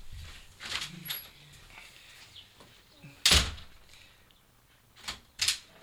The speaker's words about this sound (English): I'm going to go outside and try to close the door behind me. And try to get in. And then I'm going to try and come in.